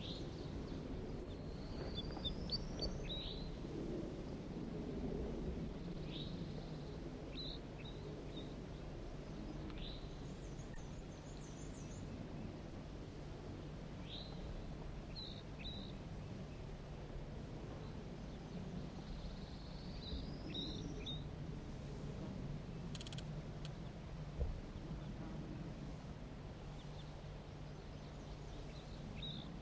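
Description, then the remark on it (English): A wild bird flock of five males and one gray bird calls in scattered short, high chirps and upswept whistles, with one brief trill, quiet over a steady low rumbling, wind-like background. “recording a wild flock.”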